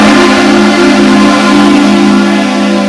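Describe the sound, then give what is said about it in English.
A man honks a vehicle horn in one long, unbroken blast, loud, holding a steady pitch for the full three seconds with no voices over it. “They should be with us, not against us, is what I'm saying, the guy honking his horn.”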